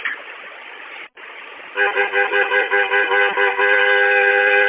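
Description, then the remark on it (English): A car horn honks in a quick series of short, loud blasts, then holds one long continuous blare, following a stretch of muffled vehicle rumble and road noise; the horn is sounded to get a man to move. “I'm close enough to him that if I honk, he should move.”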